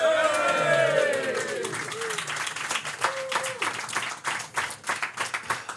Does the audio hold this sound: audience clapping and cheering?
yes